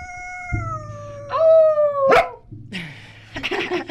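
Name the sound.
dog barking and howling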